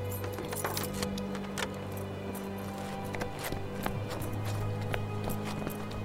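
keys jangling

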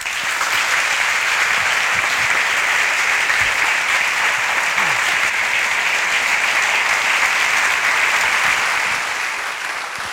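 audience applause

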